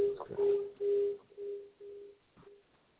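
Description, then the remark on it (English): A low, steady telephone tone beeps in a run of about five pulses, each fading a little quieter than the last, with faint line noise between them and no talking. “Let me just set this tone down.”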